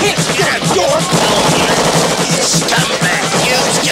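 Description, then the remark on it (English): Rapid bursts of semi-automatic gunfire crackle continuously for several seconds as several people within a few feet of each other in the woods wave their guns and shoot, dense overlapping shots forming a loud, chaotic barrage with no pauses and no voices. “And everyone just starts waving their guns and shooting these semi-automatic weapons, and somehow Lance and Doris just run away.”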